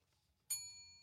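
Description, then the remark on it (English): A single soft quiz bell ding, rung by a contestant on a quiz to answer a question, strikes sharply and then rings on with a sustained, slowly fading metallic tone, heard alone over a faint low background hum. “Well, that's pretty soft ringing, but we'll give it to you.”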